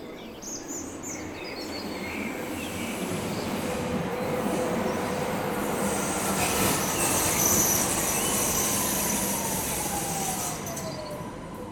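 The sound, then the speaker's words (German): A train rumbles steadily through the railway station in Kirchzarten at 7:40 in the morning, its broad mechanical roar holding for several seconds with a faint high wheel squeal, while a bird chirps now and then in the background. “Es ist 7.40 Uhr und wir treffen uns am Bahnhof im Kirchzarten, um gemeinsam auf einen Walk zu gehen.”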